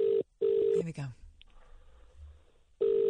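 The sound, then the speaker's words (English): A phone line rings out on an outgoing call, with steady electronic ringback tones in short bursts, then a pause filled with faint line noise before the tone returns loud and clear. “Let's phone up Josh.”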